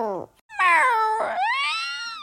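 A cat meows loudly, three drawn-out, wavering cries in quick succession, the last rising into a long plaintive wail, with no talking.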